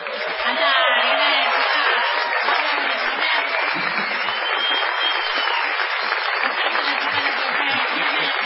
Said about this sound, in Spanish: Peor todavía va a ser la ovación para el artista antes llamado ….